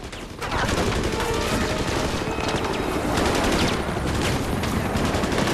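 gunfire

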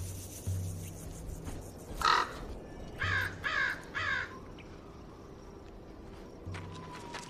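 crow cawing

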